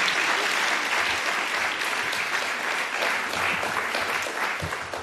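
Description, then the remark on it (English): Sustained applause from an audience for Dr. Alison Gopnik, Professor of Psychology at UC Berkeley, at a Commonwealth Club Silicon Valley and Wonderfest program: a dense, steady wash of many hands clapping that holds at an even, fairly loud level for about five seconds, with no one speaking over it. “Let's give Dr. Gopnik a round of applause.”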